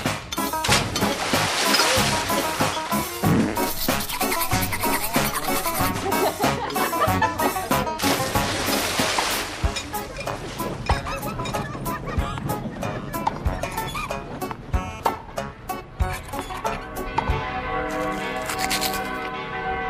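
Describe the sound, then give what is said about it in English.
The bells of Stift Heiligenkreuz (Holy Cross Abbey) in the Vienna Woods ring all at once in a dense, clashing peal, their overlapping strokes forming a loud, continuous wash of metallic tones that thins toward the end, leaving long humming overtones. “Those are the bells of Stift Heiligenkreuz, or Holy Cross Abbey, all ringing at once there like European bells do, not like the English bells who are ordered into tunes or like Australian bells.”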